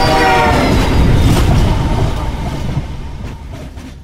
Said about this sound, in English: The oncoming train had a cattle catcher.